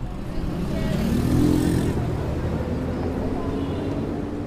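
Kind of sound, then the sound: vehicle, city street traffic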